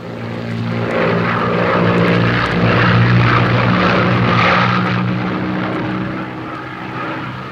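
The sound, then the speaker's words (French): A propeller plane drones steadily overhead as it flies over hills in the evening light, its engine a low, throbbing hum with a harmonic buzz that swells and then slowly fades. No voices are heard. “Les collines sous l'avion creusaient déjà leur sillage d'ombre dans l'or du soir.”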